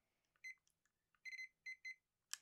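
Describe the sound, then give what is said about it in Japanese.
A kitchen timer beeps as its buttons are pressed to set it to 20 minutes and start it: a run of high electronic tones, some short chirps and a few longer beeps in irregular rhythm, ending with a sharp click. “はい、20分のタイマーにやります。で今からスタートボタン押したらスタートしたいと思います。”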